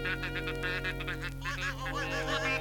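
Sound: geese honking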